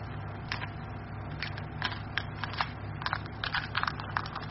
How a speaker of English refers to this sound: Listen. He's chewing his way out of the shell.